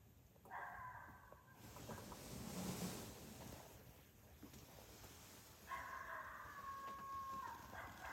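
Two drawn-out coyote challenge howls, one short and one longer, sound a few seconds apart over steady outdoor wind noise. Each call is a sustained, fairly loud, wavering tone.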